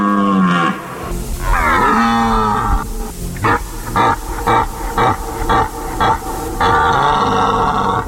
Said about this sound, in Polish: Tutaj w okolicy Włosienicy, w Dolinie Rybiego Potoku już to rykowisko było słyszane, także zdecydowanie rozpoczął się okres jesieni. Ostrzegania, uświadamiania turystów, że jednak to nie jest niedźwiedź, tylko jest to okres godowy jeleń.